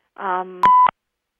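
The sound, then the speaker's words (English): A short electronic phone tone signaling an incoming call: a buzzy harmonic chirp followed by a steady pure beep framed by two clicks, loud, with no talking. “So I think I just heard a beep”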